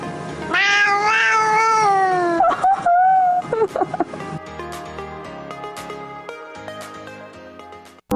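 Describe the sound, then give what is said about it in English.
A cat lets out a long, drawn-out meow, wavering in pitch, followed by a shorter cry; afterward, steady music-like tones fill the rest. “one day, you'll get to hear... Panda, say I love you.”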